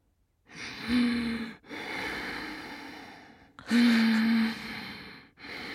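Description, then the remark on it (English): A voice imitates someone's loud, heavy breathing while asleep in bed: two slow cycles, each a raspy inhale with a throaty, snore-like drone followed by a long, airy exhale, fairly loud. “The breathing was quite loud.”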